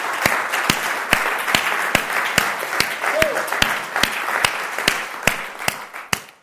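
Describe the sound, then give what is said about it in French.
A large audience applauds the Lord, with a crowd clapping in a regular, rhythmic unison beat over a dense wash of scattered claps, loud and sustained throughout. “Et là, on peut applaudir le Seigneur.”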